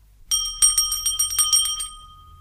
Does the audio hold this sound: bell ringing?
yes